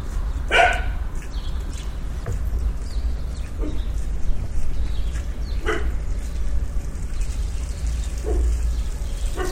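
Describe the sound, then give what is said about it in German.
A dog barks a few times on a morning in Kreuzberg, reacting to a door being used as if visitors were arriving: scattered single barks several seconds apart over a steady low outdoor rumble. No one speaks. “Immer wenn ich die Tür benutze, hat der Hund den Eindruck, es kommt Besuch.”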